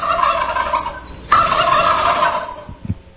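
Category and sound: bird, turkeys gobbling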